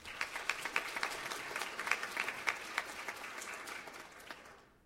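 An audience applauds for about five seconds as a band's drummer is introduced before its concluding number for an audience: a dense patter of many hands with a few sharper claps poking through, holding steady before tapering off at the end.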